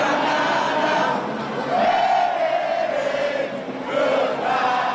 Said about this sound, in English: Saying goodbye to the Confederate flag, no longer flying at the South Carolina State House, some in the crowd singing it.